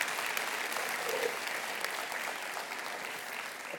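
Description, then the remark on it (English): Steady applause from an audience for the team that put the stage set together, a dense wash of many hands clapping at an even, moderate level throughout with no voices rising above it. “Can we give a round of applause to them for all the things they've done?”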